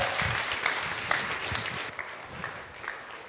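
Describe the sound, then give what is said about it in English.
Audience applause as the audience welcomes children up: a dense wash of many hands clapping steadily at moderate volume, with a few sharper claps popping out now and then. “So can we give them a big round of applause to get them up here?”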